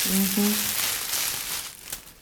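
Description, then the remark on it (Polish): Dry, crinkly rustling of well-dried herbs, including linden, that have been poured out and are being handled, a steady papery hiss that continues for about two seconds, with a brief low vocal hum at the very start. “Nawysypywałam ziółek, o, lipa, o, tak szeleszczą, dobrze wysuszone ziółka.”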